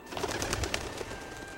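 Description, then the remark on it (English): Birds taking off from treetops near a lake below mountains, with scattered short chirps and soft cooing over a steady rustling wash of sound, moderately loud and continuous, no voices. “Birds fly from treetops.”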